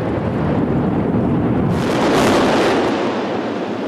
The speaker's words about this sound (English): Three Gorges Hotel and Passenger Terminal of Chongqing Port in China are 107 metres and 32 stories of past their best architecture. So they're being demolished to make way for a new transport hub and tourism centre, which means a very big explosion.